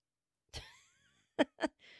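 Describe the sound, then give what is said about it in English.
A short bout of harsh coughing: one heavy cough with a raspy tail, then two quick sharp coughs in succession, followed by a breathy exhale. “Why do I have a smoker's cough when I don't smoke?”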